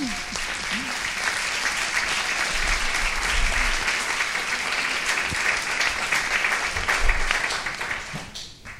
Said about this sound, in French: Alors, je pense qu'on peut les applaudir. Merci.